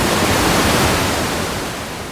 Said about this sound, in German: Die Feuerwehr mit seinem Schlauch spritzt Wasser überall. Sie muss es auch.